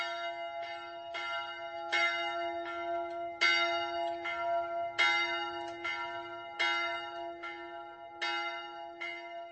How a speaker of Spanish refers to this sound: En la iglesia se conservó hasta el presente un recuerdo del monasterio de Ostrov. Es una campana de 600 años de edad que está colgada en el campanario. Es una de las campanas más viejas en el territorio checo.